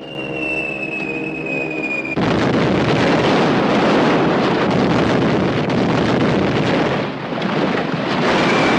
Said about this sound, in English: Everybody runs for cover as bombs start raining down on the airfield. Three planes are flying overhead, dropping bombs onto the ground below.